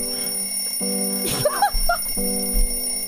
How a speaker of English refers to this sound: Whose alarm is going somewhere. Anna, you have an alarm somewhere.